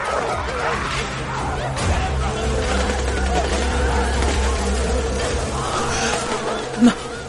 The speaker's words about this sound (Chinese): 这什么呀？ 狼群，是狼群，快快走，进峡谷！